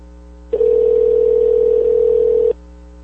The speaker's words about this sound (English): Let me see if I can get my mom on the line here. If I can manage to do this, let's try this and see what happens. All right, it's ringing here. Let's see if she picks up.